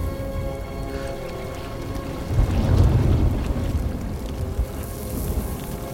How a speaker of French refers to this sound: Oui, il y a bien une tempête. Ce n'était pas qu'une tempête.